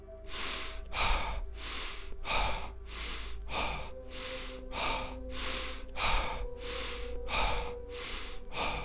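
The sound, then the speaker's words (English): Fast, forceful power breathing at double speed, belly and chest pushed out, pumps in a steady rhythm: around a dozen sharp huffs with no pauses, loud over a faint low hum. “Power breathing. Belly, chest out. Double speed.”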